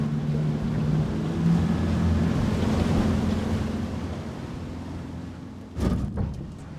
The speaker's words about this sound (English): As the boat slowed down, and we began our approach to their underwater farm, I noticed several black devices about 2 feet in diameter floating on the clear water.